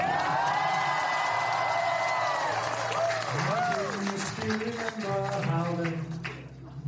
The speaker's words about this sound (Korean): 지난 4월 국빈 방문 시 윤석열 대통령은 백악관 만찬장에서 이 노래를 불러 큰 박수를 받았습니다.